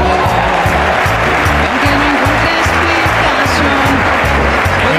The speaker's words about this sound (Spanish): Muy feliz cierre de temporada, Leos Enchufado. Vamos, aplauso.